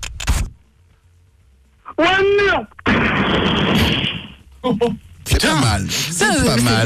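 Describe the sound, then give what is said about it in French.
A sound-effect explosion, played from a PC, of a Ferrari crashing into a wall and exploding: a loud, roaring burst lasting over a second, preceded by a sharp bang and a drawn-out vocal cry, with excited voices and harmonic wails following. “Attends, mais il met des bruitages sur son PC ou quoi là?”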